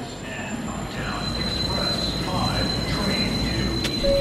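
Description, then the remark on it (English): A busy underground station at Fulton Center, a shopping mall and subway station in Manhattan, New York City, with a train rumbling steadily through, a thin high-pitched whine running over the noise, and a faint murmur of voices in the background. “Like Fulton Center, a shopping mall and subway station in Manhattan that hundreds of thousands of people pass through every day.”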